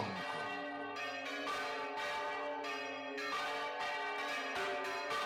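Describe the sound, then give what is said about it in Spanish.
Church bells peal continuously, their overlapping strikes ringing out in a steady, resonant rhythm with long shimmering overtones, fairly loud and filling the space without any voices. “Se encontraba sumido en el desvanecimiento cuando las campanas de la iglesia tañeron, asediando su sueño.”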